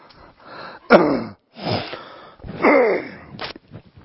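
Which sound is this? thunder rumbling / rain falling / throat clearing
throat clearing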